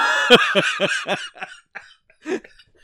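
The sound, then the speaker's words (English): A hard coughing fit, so strong the person almost throws up: four loud, rapid coughs in quick succession, then a few weaker, scattered coughs trailing off into quiet. “I literally coughed so hard I almost threw up.”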